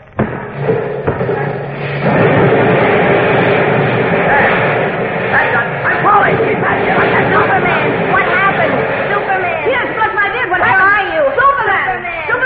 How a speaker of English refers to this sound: The wall of the cave seems to give a bit here. This might be where I came through. Where? Oh, don't come any closer, Jim. I'm going to smash a hole through here. Might be a small landslide. Oh, okay. There goes.